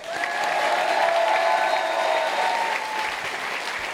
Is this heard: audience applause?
yes